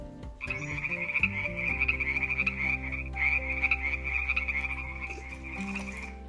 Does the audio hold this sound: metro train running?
no